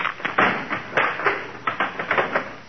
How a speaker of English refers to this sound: Oh, darn it, that's the third chair he broke this week.